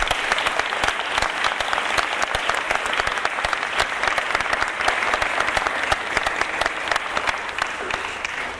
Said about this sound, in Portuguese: Aê, meu irmão. Aê, uma salva de palmas aí, gente.